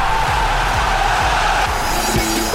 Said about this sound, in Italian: I cori accompagnano lo svolgimento vero e proprio delle azioni, oppure riempiono le pause tra i tempi di gioco. A volte partono spontaneamente, a volte invece vengono innescati da una tifoseria organizzata per poi diventare un vero e proprio boato.